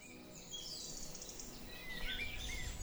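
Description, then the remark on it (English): Several birds chirp and sing at once in a dawn chorus by a tiny pond and a bird feeder, bright overlapping trills and whistles over a low outdoor background hum. “And then we waited for the dawn chorus to come in.”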